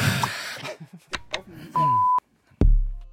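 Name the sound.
small alarm beep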